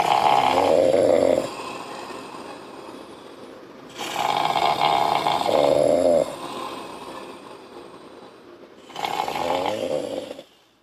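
Loud snoring in three long rasping breaths spaced a few seconds apart, with quieter breathing in between and no talking.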